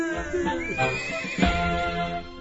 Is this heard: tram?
no